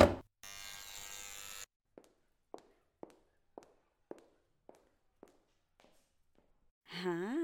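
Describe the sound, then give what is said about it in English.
A harsh electric door entry buzzer at the head office of Global Wellness Associates sounds for about a second with a steady, rasping tone, followed by roughly a dozen evenly paced footsteps that fade, then a voice begins speaking. “No problem, I'll buzz you in now.”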